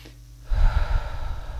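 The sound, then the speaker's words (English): After a brief hush, a single deep, breathy inhale rushes in and holds for about a second, airy and steady, with no talking. “Number 5, focus on your breathing. Oh my goodness, we all need to breathe.”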